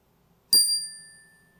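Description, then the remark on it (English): A single bright chime is struck once to open a Christian prayer time and rings out clearly, its high metallic tones lingering and slowly fading over the next second in otherwise quiet surroundings. “As the chime rings out, I invite you to let it echo out into yourself.”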